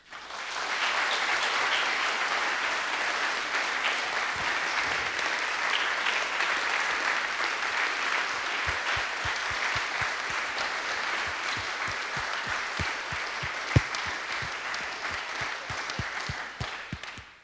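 A conference audience applauds the session organizers and local organizing committee in a steady, dense round of clapping. It holds at an even level for about seventeen seconds before tapering off, with a few sharper individual claps standing out.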